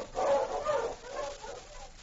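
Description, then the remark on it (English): A husky dog named King barks and yips, with two strong calls up front followed by a few weaker, trailing yelps. No talking. “On, your husky!”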